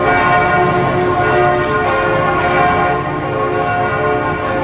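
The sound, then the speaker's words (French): The large bells of Notre-Dame cathedral in Paris ring out continuously, sounding the liberation of Paris on 24 August 1944, broadcast live on radio; deep overlapping tones, sustained and loud, in a rich, steady peal with no voices. “Et vous entendez là les cloches de Notre-Dame, des cloches qui sonnent la libération de Paris en direct à la radio.”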